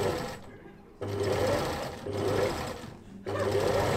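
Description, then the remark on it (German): A sewing machine runs in bursts in the sewing room behind the scenes of the Salzburg Marionette Theatre, where the puppets' miniature clothes are made; its steady low hum and rapid mechanical chatter start and stop three times with brief pauses between runs. “Hinter den Kulissen gibt es zahlreiche Räume. Beispiel die Nähstube.”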